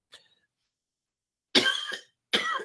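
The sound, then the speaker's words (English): A faint, brief cough, a pause, then two loud, harsh coughs in quick succession, each a raspy burst with no talking around them. “I have a hell of a cough.”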